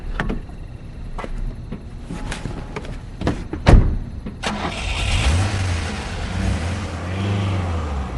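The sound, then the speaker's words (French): A few sharp clicks and knocks, then a car engine cranks and catches, idling and revving with a low rising hum as the vehicle pulls away, fairly loud. “Au fait, monsieur Tavernier se déplace comment? En voiture.”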